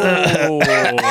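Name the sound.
coughing and throat clearing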